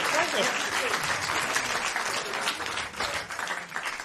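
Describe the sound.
Steady audience applause fills the whole stretch, a dense, even patter of many hands clapping at a constant loud level with a faint voice or two mixed in.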